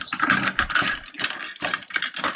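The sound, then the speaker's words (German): Close, busy rustling and clattering as things are shuffled around inside a box, a dense run of crinkly scrapes and small knocks that swell and pause irregularly, with no voices. “Ach krass, guck mal, was ich hier noch in dieser Kiste Hört habe. ihr, wie es raschelt?”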